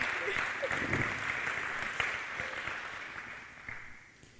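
An audience claps steadily in a dense wash of overlapping hand claps, holding a fairly even level for several seconds before tapering off slightly toward the end.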